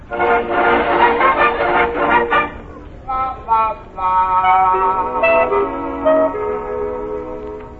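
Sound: train arriving with horn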